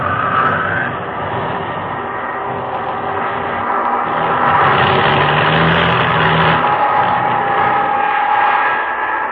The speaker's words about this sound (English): And then it happened. Engine trouble.